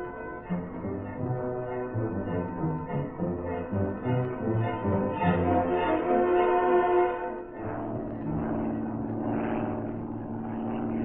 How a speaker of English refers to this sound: Three times within the next 4 hours, Cato, in Reed's plane, passed over the yacht Quicksilver.